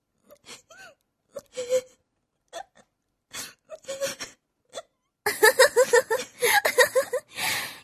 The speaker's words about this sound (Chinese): 堂堂反黑局局长居然被气哭了。来来，别哭了，